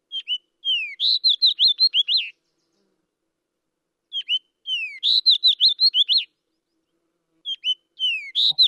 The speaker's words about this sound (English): So our last bird of the week, the fox sparrow, is very musical. So it's nice to hear a musical bird. Here we go.